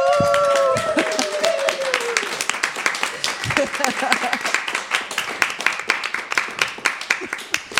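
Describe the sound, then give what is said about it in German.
Enthusiastic applause from a group, dense steady clapping that continues throughout, with a brief high vocal whoop or cheer riding over the start. “Wo ist der frenetische Applaus?”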